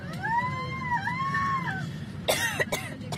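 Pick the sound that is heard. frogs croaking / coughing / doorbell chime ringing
coughing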